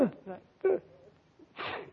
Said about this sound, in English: Gesundheit. Well, thanks.